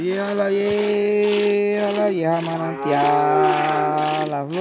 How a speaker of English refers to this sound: While milking the cows before dawn, one of the llaneros softly sings so the animals will relax and give more milk.